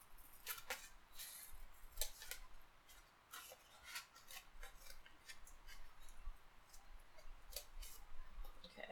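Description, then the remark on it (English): Scissors snip repeatedly into a piece of cardboard, cutting a hole in its middle using just the tip of the scissors, a quick irregular series of crisp clicking cuts with faint rustling between them, no voices present. “Cutting a hole in the middle of a piece of cardboard without weakening the whole thing by cutting straight through it is a little bit difficult, but I think I'm managing.”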